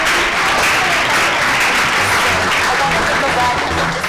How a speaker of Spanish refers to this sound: Muchísimas gracias por habernos atendido, un fuerte aplauso para nuestras compañeras y continuamos en este Despierta UMH.